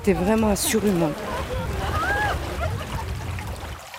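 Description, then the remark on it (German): A stream babbles and splashes steadily, a continuous wash of water noise, with brief voices over it near the start. It flows past a meeting point in the village of Champs-Secret, 100 kilometres inland, in the Normandie-Maine nature park. “Er plätschert ungefährlich dahin, der Bach am Treffpunkt in Champs-Secré, 100 Kilometer landeinwärts.”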